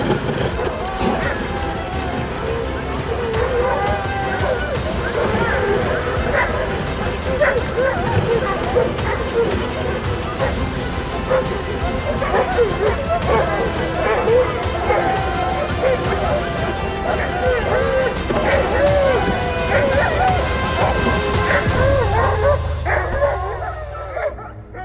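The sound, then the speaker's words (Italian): A pack of sled dogs, a team used as couriers in the serum relay to Nome, barks and yips nonstop, many high excited voices overlapping into a loud, dense chorus with occasional whines, tapering off only in the last second. “Si organizzarono dunque 20 mute di cani da slitta da utilizzare come veri e propri corrieri.”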